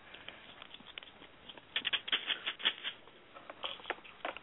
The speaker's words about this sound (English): And so now, remember those coins? Remember that rattle? Right.